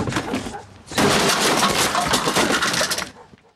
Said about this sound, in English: He pushes Mansell back, who smashes a garden chair.